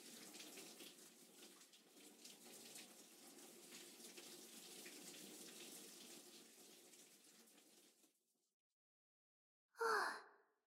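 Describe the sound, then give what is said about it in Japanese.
Water pours steadily for about eight seconds as foam is rinsed off in a bath, a broad rushing splash, then stops; after a short silence comes a brief breathy gasp or sigh. “さ、流すよ。”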